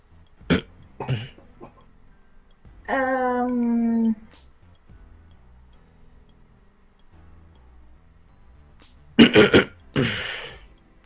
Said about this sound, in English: Are you done clearing your throat? All of this.